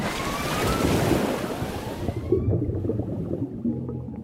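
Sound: ocean waves crashing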